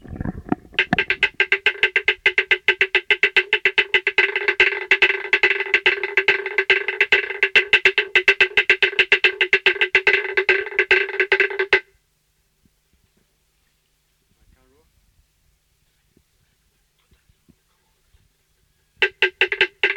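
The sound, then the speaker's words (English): A dance gong is beaten by the Ra Ra people, recorded in August 1957, in a fast, steady stream of loud metallic strokes with a sustained ringing tone, then it stops into silence before a second, different beating starts. “These are two beatings of a dance gong done by the people of Ra Ra, August 1957.”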